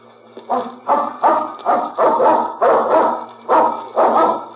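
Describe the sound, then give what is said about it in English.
A dog barks repeatedly and loudly, about eight sharp barks in a steady rhythm, with no voices present. “There's no one here but the dog.”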